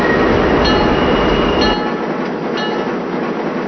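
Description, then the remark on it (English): A train operating at restricted speed rumbles along with steady rail noise and a few evenly spaced wheel clacks, the heavy low roar easing off partway through as it slows to a stop at a railroad worksite. “This is good right here. Go ahead and bring it to a stop.”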